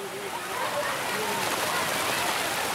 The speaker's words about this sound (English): But back at the spring-fed pool in a shady spot near a waterfall,